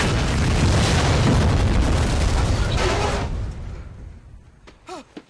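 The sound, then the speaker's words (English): A massive explosive blast from a loaded bazooka fired on the shore, destroying a boat, roars across the full range, rumbling loudly for about three seconds before decaying into crackling debris, with a faint high whistling or cry near the end. “On the shore, Bien fires a loaded bazooka.”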